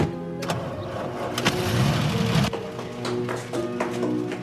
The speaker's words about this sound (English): As the driver starts the engine, Philomena runs across the courtyard to the heavy gate with the barred window.